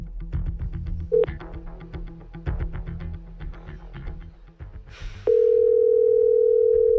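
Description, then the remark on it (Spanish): A telephone ringback tone from calling the mobile phone of Luis Rubiales, a steady single-pitched hum, sounds loudly near the end after a short beep earlier, with busy rhythmic background noise beneath. “Vamos a llamar al móvil de Luis Rubiales.”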